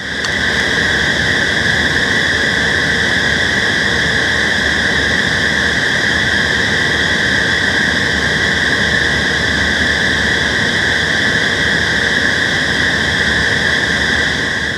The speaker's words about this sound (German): Ja, das ist die Klimaanlage der Lüfter am MDR Funkhaus in Dresden. Fand ich ganz schön. Da ist nämlich direkt eine Bushaltestelle davor. Und wenn man dort steht, hört man genau dieses Geräusch.